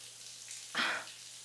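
Running shower water makes a steady, soft hiss, swelling briefly into a louder, brighter rush of spray midway before settling back to an even stream. No one speaks.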